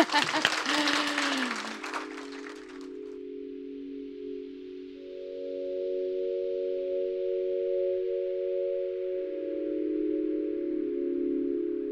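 A burst of audience applause for a panellist at the close of a talk at MPavilion, dense and loud, claps for about three seconds and then fades as sustained, steady musical tones take over and hold to the end.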